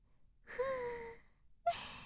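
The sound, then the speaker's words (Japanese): Soft, airy breath blown very close to the ear, one long drawn-out exhale with a faint voiced edge, then a second breathy puff starting after a short pause. “私たちの吐息くすぐったい？”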